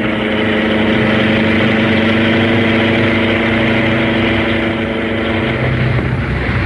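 The engine of the car Black Beauty runs steadily for the whole stretch, a loud, even, low-pitched drone with a constant hum and no voices over it.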